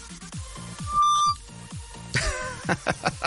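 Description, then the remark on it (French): A phone rings with an incoming call, a bright, melodic ringtone: a quick run of electronic notes and a sustained beep, then several short repeated tones, loud with no one talking. “On m'appelle et je vois mon nom.”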